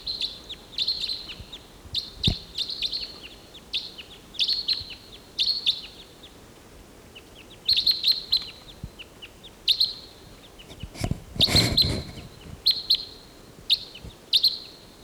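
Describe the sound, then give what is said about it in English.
Birds flying over, a pair and then three, give sharp, high chirping flight calls in quick bursts of several notes. The calls repeat irregularly throughout with short gaps, over a faint low background hiss, with no voices. “There's a pair flying over, three birds flying over.”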